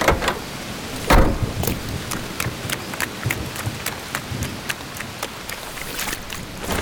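nature, heavy rain pouring down

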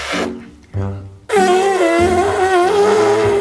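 human body sound, fart

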